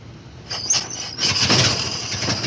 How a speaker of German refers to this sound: Angelassen wurden Autos, wie in jedem guten Sturmfilm zu sehen, mit einer Kurbel.